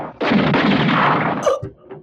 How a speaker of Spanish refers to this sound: Se oye el estampido del disparo y una fracción de segundo después...